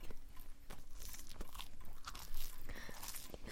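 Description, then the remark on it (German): Crunchy chewing of a sandwich as a mother feeds her daughter at a kitchen table at midday, with repeated wet bites and mastication sounds in an irregular rhythm and no talking. “Schön kauen, Schätzchen.”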